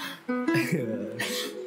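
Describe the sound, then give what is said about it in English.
Two harsh, voiced coughs, the second following about half a second after the first, with a rough tonal hum lingering between them. “Why they cough?”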